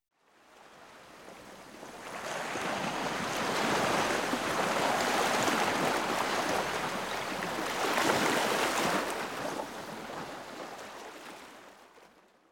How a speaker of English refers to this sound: Relaxing, isn't it? That's because the rhythm of the waves is similar to our heart rate when we are sleeping. So our heart rate decreases and we relax.